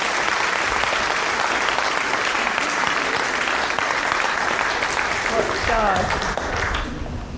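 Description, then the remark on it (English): Sustained applause from an audience for the cast after a performance of the Bible story of Jonah, dense and steady clapping at moderate loudness, with a few voices and cheers mixed in before it begins to taper off near the end. “Let's give our cast a big round of applause.”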